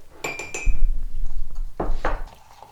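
A spoon clinks three times against a ceramic mug with a bright ringing tone, then scrapes and churns through something thick, with two sharper scraping strokes near the end.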